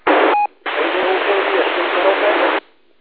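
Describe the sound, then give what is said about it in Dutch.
A faint, garbled radio transmission from a handheld portable radio outdoors, nearly lost under a loud wash of band-limited static, with a brief gap and a short tone near the start before the hiss resumes and cuts off. “Oeh, die gaat moeilijk, hè? Kom nog eens weer. Wel wat in de ruis, maar ik ga je eruit vissen.”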